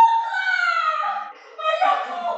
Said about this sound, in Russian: Это плачет наследник Тутти. Моя кукла! Моя чудесная кукла сломалась! Мою куклу испортили! Гвардейцы искололи мою куклу саблями!